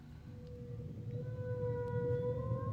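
A recording of humpback whale song played through a smart speaker as background music: a long, steady tonal moan with a faint upward bend, carried over a low, rumbling wash of water noise. It plays alone at moderate volume, with no voices.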